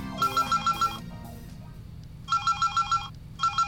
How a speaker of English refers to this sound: Oh, she's ringing me now anyways.